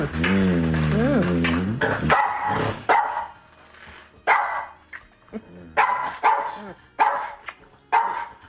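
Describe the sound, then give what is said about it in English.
A dog lets out a long, wavering whine, then barks repeatedly in loud, sharp bursts about once a second, with short pauses between them, reacting to people kissing in the house. “The dog's so mad.”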